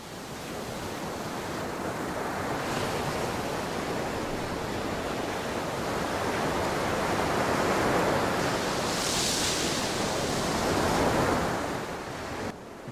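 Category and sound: nature, ocean waves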